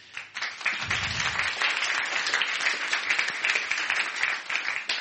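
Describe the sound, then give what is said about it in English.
A crowd breaks into sustained applause for the Costa staff, dense overlapping claps filling the room at a steady loud level for several seconds, with a brief low thump near the start. “Give them a round of applause for us.”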